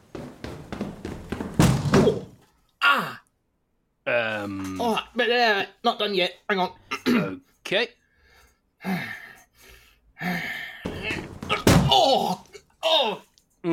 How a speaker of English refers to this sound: Yeah, that cracking sound. I'm hoping it's the lock, but I have a sneaking suspicion that it might have been your rib.